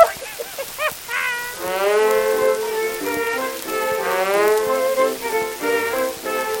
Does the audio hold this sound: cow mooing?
yes